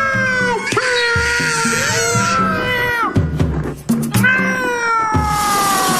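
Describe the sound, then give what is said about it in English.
Loud, harsh screeching and yowling around midnight, like cats fighting, with rising wails that repeat over several seconds, intense, along with rough scuffling noises. “It began with loud sniffing and scratching noises, which was followed by the most terrible screeching and screaming.”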